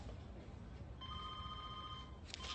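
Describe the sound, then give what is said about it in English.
A single ring from a telephone, a steady electronic trill lasting about a second, rising out of a low background hum and then cutting off. “It's your phone.”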